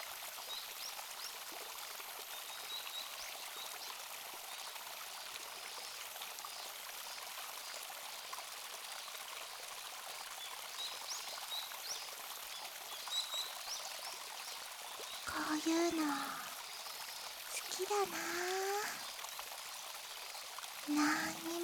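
A steady, continuous rush of flowing river water fills the scene at moderate volume in fine weather, with no other people around. A few short chirps like birdsong rise above it toward the end.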